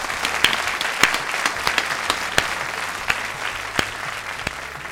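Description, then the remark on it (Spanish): An audience claps steadily for a man who wrote a book about health habits, a dense wash of many hands with a few sharper individual claps popping out, sustained throughout. “Un aplauso para este hombre, por favor.”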